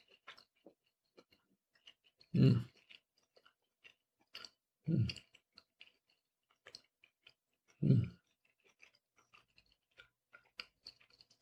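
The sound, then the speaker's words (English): Wet chewing of cold cuts of lamb from the fridge, with three louder crunching bites at steady intervals amid softer smacking and small mouth clicks, no talking. “So we'll try it with a little lamb.”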